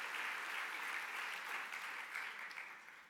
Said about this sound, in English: Would you stand up just so we can see you and celebrate you and applaud you, whether in this house or in our congregation at Owings Mills?